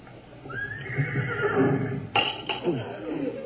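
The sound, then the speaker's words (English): A horse whinnies outside the house, on the front lawn, in a drawn-out, wavering call lasting over a second, moderately loud, ending with a couple of sharp snorting bursts. “It almost sounded like a horse.”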